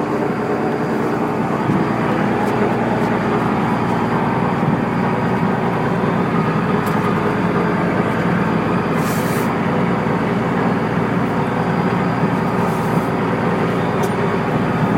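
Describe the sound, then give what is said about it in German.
A sailboat's engine drones steadily and loudly as the boat motors for a while before sailing. It is a constant low rumble with a broad noisy hum and no pauses, with no one talking. “Wir haben einen langen Segeltag vor uns, allerdings muss vorher erstmal für eine Weile der Motor angeworfen werden, bis wir dann auch wirklich segeln können.”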